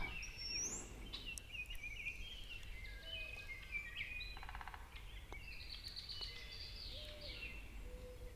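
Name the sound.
bird song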